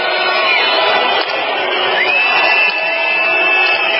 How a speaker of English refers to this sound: The crowd also chanted demise and we've had enough in reference to their desire for the government to resign from power.